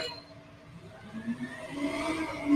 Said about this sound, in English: So, should we pause it with a garbage truck? Oh, yeah, definitely.